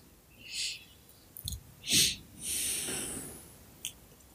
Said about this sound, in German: Ja, nach dem Einatmen, da muss man dann danach normalerweise durch die Nase atmen für circa 30 Sekunden. Da wird Sauerstoff transportiert.